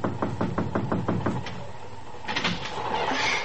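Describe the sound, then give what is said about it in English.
A young woman knocks on the door of a private drawing room on a train speeding toward New York City past midnight: a quick, even series of about six crisp knocks, followed by a sliding, rushing sound like the door being drawn open. No one speaks. “She seems to be having difficulty making up her mind to knock.”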